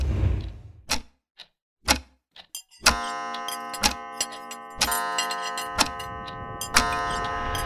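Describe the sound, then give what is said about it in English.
A clock ticks steadily about once per second, each tick sharp. After a few ticks, a sustained ringing chime rises and continues underneath the regular ticking. “Don't watch that clock. I'll do that myself.”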